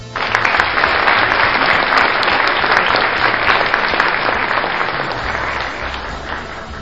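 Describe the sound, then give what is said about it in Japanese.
A sound effect of steady, dense clapping from a group, like a burst of applause after birthday congratulations, sustained at a fairly even loud level for several seconds, tapering slightly near the end. “あれ、拍手の効果もあった。”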